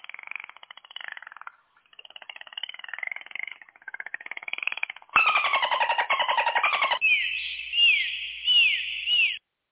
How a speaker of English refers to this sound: The clicks are the dolphin clicks. Oh, see that? I didn't know. That's why I have to ask. So this is all dolphin language.